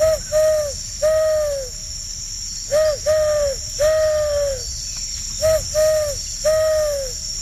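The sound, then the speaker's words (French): A person imitates an owl, giving three clear series of hoots, each a short note or two followed by a longer, drawn-out one, over a steady high insect-like hiss. “Là, on est sur la chouette ou le hibou. Ouais, j'aurais bien dit vrai quand même que c'est bien une vraie chouette. Mauvaise réponse. Oh non. Belle imitation.”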